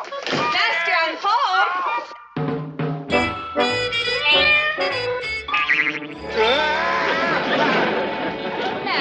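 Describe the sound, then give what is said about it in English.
A cat meows in drawn-out, wavering cries, loud, mixed in with chattering voices and some bright clattering sounds. “Doing playing with the cat?”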